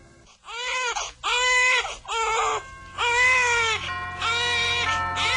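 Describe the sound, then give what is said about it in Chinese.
A newborn baby, just born to Mary in Bethlehem at midnight, cries loudly in five or six strained wails separated by brief gasps for breath, with no other voices present. “这时候玛利亚生产的时间到了，不久她生下一个婴儿。”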